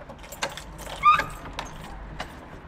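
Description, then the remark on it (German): Keys jangle and metal clicks as the door of a vacant Art Nouveau (Jugendstil) house is unlocked, a handful of sharp, bright ticks and a brief scraping rattle over a low background hum, with no talking. “Ich kann mal die Tür aufschließen.”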